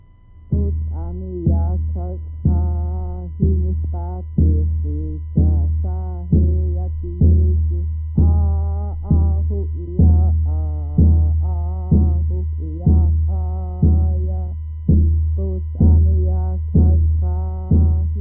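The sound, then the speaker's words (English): A lone voice sings a traditional chant-like song about Wolf falling into the water, recorded in 1974, in short repeated phrases, with a steady, even rhythm and a clear sound throughout. “A song about Wolf falling into the water”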